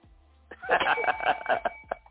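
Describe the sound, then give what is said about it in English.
A bell rings in a rapid, rattling burst of repeated metallic strikes with a sustained high tone, lasting about a second and a half before tapering off. No one speaks. “Well, I don't hear that bell.”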